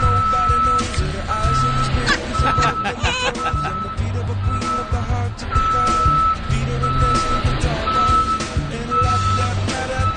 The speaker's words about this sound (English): I think it was the Monday morning after Coachella. Okay. And they were cleaning up. Right. And the heavy truck that you're going to hear backing up, beep, beep, it was live. We couldn't get him to stop. There right. was nothing we could do about it.